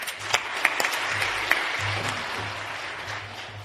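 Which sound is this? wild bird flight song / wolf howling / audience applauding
audience applauding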